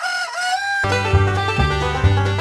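A rooster crows briefly, then a dense chorus of chickens takes over with steady, rhythmic clucking and squawking, loud and close, with no talking.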